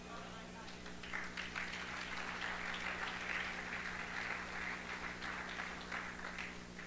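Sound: hands clapping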